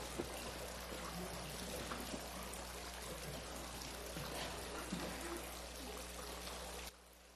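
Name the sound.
water running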